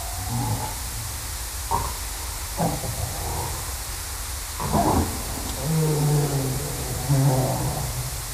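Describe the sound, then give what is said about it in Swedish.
Dog-like barking calls of harbor seals recorded underwater: several short, abrupt barks at irregular intervals, then a few longer, low harmonic calls, all over a steady hissing wash of water noise. “Lite hundlikt kan man tycka. Därför jag kallar det skällande, tror jag, i filen här.”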